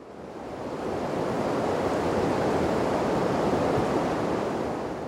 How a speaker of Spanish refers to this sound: Un monumento de agua y basalto abre la ruta. Los guaraníes lo resumieron en dos sonidos que hoy forman una palabra. Iguazú, aguas grandes. Las cataratas ofrecen su propio concierto en disputa con los de la selva que las abraza